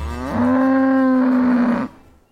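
A cow, the one featured in Norwegian Slow TV, gives one long, loud moo lasting about a second and a half, steady, then cuts off abruptly into quiet.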